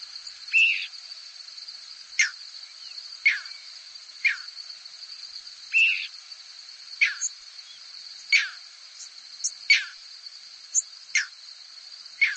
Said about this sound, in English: This clip is from a six-hour recording of squeaks, whistles, and peeps from thousands of birds passing over a hayfield in central New York State. You'll hear a few crickets, too.